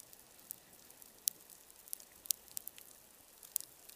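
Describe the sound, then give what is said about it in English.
Underwater reef ambience of feeding fish and shrimp, recorded by hydrophones before seismic surveying: a steady fizzing crackle broken by scattered sharp snaps and clicks at irregular intervals, fairly quiet, with no voices. “This is the reef before seismic surveying, the sound of fish and shrimp feeding.”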